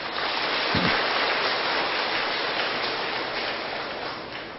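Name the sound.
audience applause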